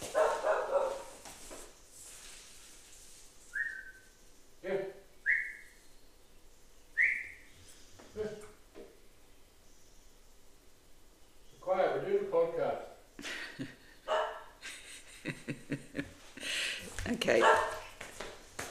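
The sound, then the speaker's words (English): A dog lets out a few high, thin whimpers, then barks in short, sharp bursts that come irregularly, with some human voice sounds mixed in. “It's a divine dog.”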